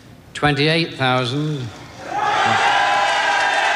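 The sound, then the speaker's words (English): A loud, sustained cheer from a crowd of supporters at an election count in Crosby swells up after a shouting voice and holds as a dense roar of many voices, as Shirley Williams of the SDP is elected in 1983. “A cheer from supporters.”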